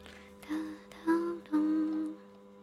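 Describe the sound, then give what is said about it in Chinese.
An air conditioner hums steadily and fairly loudly in the background, a constant low droning tone, with three louder tonal swells rising over it before fading back. “我这空调好大的噪声。”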